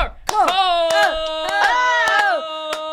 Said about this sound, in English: I feel like a slow clap is in order.